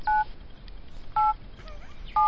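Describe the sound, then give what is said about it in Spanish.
Three loud, steady mobile phone keypad tones, each a dual-pitch beep lasting about a fifth of a second, pressed slowly with long pauses between them over a faint background hiss, as a parent in their forties or fifties dials a phone number or types a message. “Este sería un padre o una madre, escucha, Pulpo, cuarentañera o cincuentañera, marcando un número de teléfono o mandando un mensaje.”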